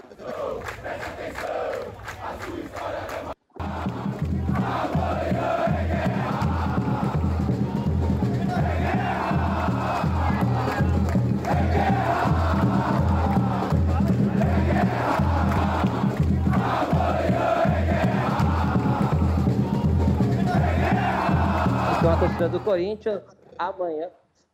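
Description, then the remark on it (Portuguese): A large crowd of Corinthians football supporters in Brazil chants loudly in unison in protest against the squad and club board at the gate of the Joaquim Grava training centre, the same rhythmic phrase repeating over and over with a steady pulse underneath, broken only by a brief cut near the start. “A torcida, o Tebas tá lá na porta do CT Joaquim Grava.”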